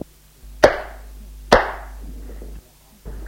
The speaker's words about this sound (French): Tu feras ce que je te dis. Non! Il la gifle.